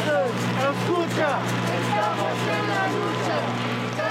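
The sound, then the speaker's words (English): Semi-tractor trailers packed with live chickens rumble past the gate of a Tyson poultry slaughterhouse in Springdale during a torrential rainstorm: a low, constant engine drone with a slight hum, while a dozen activists call and chant over it. “Last week, during a torrential rainstorm, a dozen Latinx activists stood at the gate of a Tyson poultry slaughterhouse in Springdale, chanting, semi-tractor trailers packed with live chickens rumbling by.”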